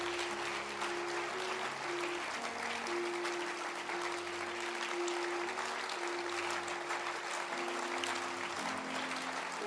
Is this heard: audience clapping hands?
yes